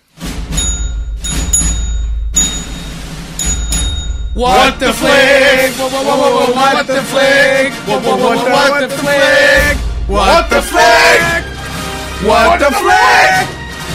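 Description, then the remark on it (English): Several voices sing loudly together in long, wavering notes, opening after a few heavy thumps and a short pause, then breaking briefly before the loud group singing resumes. “I haven't had that much fun singing since I went to Harlem Boys Choir.”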